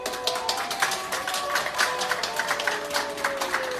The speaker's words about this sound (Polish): Personel ustawia się pod ścianami i pacjent w środku. Są brawa i życzenia zdrowia. No to akurat pożegnanie pacjentki, która mając ponad 80 lat pokonała wirusa.